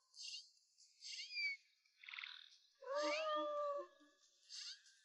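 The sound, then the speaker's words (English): A female wild cat meows repeatedly, several short mews followed by a longer, drawn-out wail, then another brief meow; fairly loud, with no talking. “It's a wild cat!”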